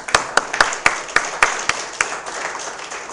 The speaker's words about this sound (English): So if we could just round of applause.